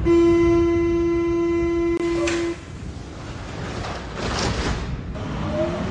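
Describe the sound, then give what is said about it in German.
A subway train at the Schlossstraße U-Bahn station: a loud, steady tonal whine for a couple of seconds gives way to a broad, echoing rumble of cars rolling along the platform. No one speaks. “Ein Lichtblick im U-Bahnhof Schlossstraße.”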